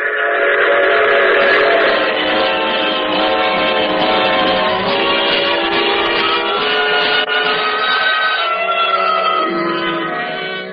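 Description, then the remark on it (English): A train whistle sounds loud, its layered tones held steadily for several seconds over the rumble of a train rolling along the rails, easing off slightly near the end. “And if I had any sense, I would have gotten off that train and gone back to Chicago.”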